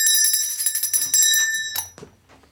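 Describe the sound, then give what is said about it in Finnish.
An Austrian cuckoo clock, a gift from Kurt Waldheim, chimes with bright, metallic ringing tones that hold steady and then fade out over about two seconds, ending with a soft knock. “Papukaija! Ei, se on käki.”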